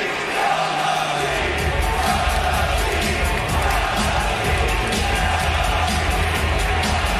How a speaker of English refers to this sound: That is a crowd yelling, "Sell the team," over and over and over again.